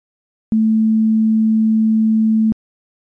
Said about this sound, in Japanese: ここに長いチューブがあるとします。半径は 2.5 センチ、長さは 75.7 センチ、今の気温は20度だとします。うまく鳴らすと 220Hz の音が出ます。この音程です。